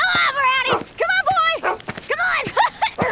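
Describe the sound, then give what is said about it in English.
A dog named Brownie barks and yips excitedly in quick, uneven bursts, fairly loud, with high whiny yelps mixed in as it romps with a boy. “Todd, his younger brother, was romping with their dog, Brownie.”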